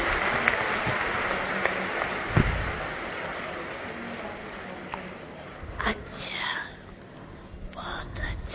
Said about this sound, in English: Then clap if you say that. Now or never.